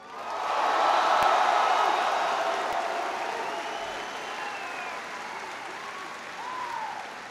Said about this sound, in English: I want everybody, first of all, to give a big round of applause to Chief Ellison Tlalibong for leading us in the pledge and singing our national anthem.